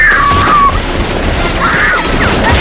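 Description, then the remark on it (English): A dense, chaotic exchange of gunfire, loud, with shots overlapping continuously alongside crashing noise, while brief high wailing police sirens rise over the din. “Exchange fire.”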